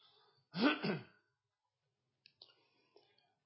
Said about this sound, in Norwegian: Det handler sikkert om at jeg ble dratt med ut for å bade i går, i sjøen. At jeg hoste nå.